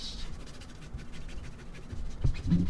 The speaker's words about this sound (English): I was actually scratching my mouse pad. It sounded like a pencil. You could have fooled me.